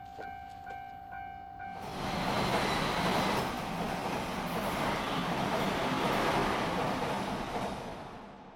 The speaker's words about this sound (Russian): Прибывает последний поезд линии Дюосу, следующий в направлении Токио.